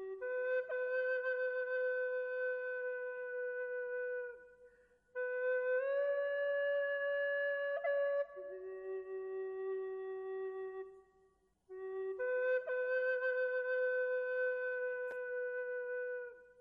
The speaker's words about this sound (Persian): صدای فلوت بود. درست است، صدای فلوت بود. یکی داشت فلوت میزد.